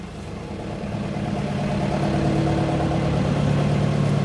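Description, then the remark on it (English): An oyster co-op boat's engine runs steadily with a low, throbbing drone that swells slightly in loudness as the boat takes in its lines and pulls away, heading out to the native oyster bed in Trilly Bay. No one speaks. “Ripping off the boat there now, and we'll head away out, taking in the lines.”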